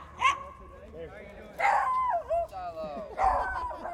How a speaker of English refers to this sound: This is my dog. Well, George the Yorkie, he has one eye. He's very excited, very hyper, but once you get him by yourself, he's calm, real nice.